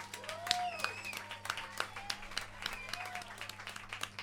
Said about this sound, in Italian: vorrei un applauso per entrambe.